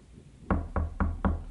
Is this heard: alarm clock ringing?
no